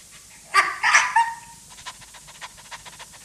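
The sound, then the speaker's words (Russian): A poodle, Arto, lets out a few high, eager, joyful whimpering squeals as it licks an old man's cheeks, eyes, nose and mouth, then settles into quick, soft rhythmic panting. No one speaks. “И прежде, чем тот успел опомниться, облизал ему с радостным визгом щеки, глаза, нос и рот.”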